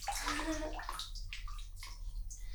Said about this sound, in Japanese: 気持ちいい。気持ちいいとこに当たるとやばい。すごいな、このシャワーは。